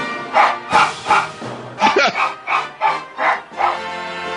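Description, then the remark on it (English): A dog named Teddy barks repeatedly in a quick, steady series of about nine sharp yaps, moderately loud, with no other sounds around them. “Britain has gone to the dogs”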